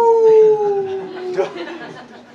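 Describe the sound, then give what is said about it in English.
A person mimics a wolf's howl with a long, steady, slightly falling tone, followed by a burst of noisy, scattered vocal sounds as the howl breaks off. “When the sheep goes astray in the wilderness, what happened during the night time?”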